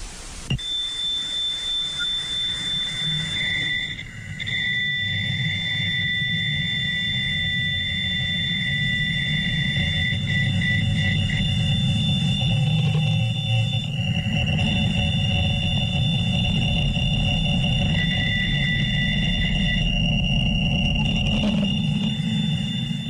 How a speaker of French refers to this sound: Imaginez-vous, vous entendez le vide du cosmos, une espèce de buzz, hein, une espèce de bruit de fond, et tout à coup arrive ce signal.